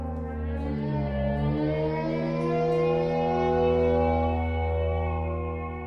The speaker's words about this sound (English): Every sound you hear is actually a saxophone sound. It's like a highly modulated saxophone, like a couple saxophones playing together, or just one saxophone sound. It's all sounds I recorded from saxophones.